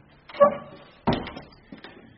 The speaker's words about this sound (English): Well, we'll make our way in through one of the doors here.